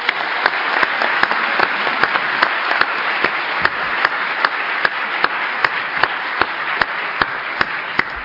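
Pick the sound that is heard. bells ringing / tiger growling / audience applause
audience applause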